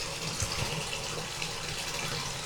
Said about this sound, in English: And speaking of frozen, this water's cooling down, so we gotta turn the hot water back on. Get some more hot water in this bathtub. There we go.